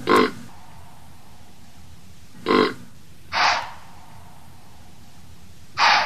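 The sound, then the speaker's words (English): White-tailed deer calling: four short, harsh, breathy bursts like snorts or blows, spaced irregularly with quiet gaps between, fairly loud against a low steady background hiss. “The white-tailed deer.”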